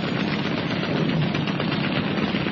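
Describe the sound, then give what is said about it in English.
A small boat's machine guns fire from both sides, rattling on without pause, rapid shots blurring into a dense, steady, crackling roar at an even loudness throughout, with no voices. “Roberts swung hard on the wheel, and the small boat zipped into the gap, her machine guns blazing out defiance from both sides.”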